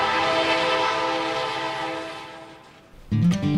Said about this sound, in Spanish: El vapor presiona sobre unos émbolos. Los émbolos impulsan unas bielas. Las bielas mueven las ruedas. Cosa de juguete, que no podría intimidar a nadie.